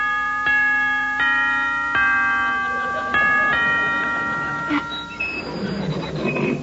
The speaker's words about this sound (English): Now, ring the bell.